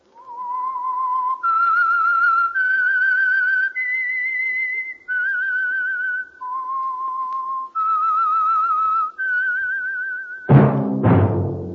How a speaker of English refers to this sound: That whistle is your signal for the Signal Oil program, The Whistler.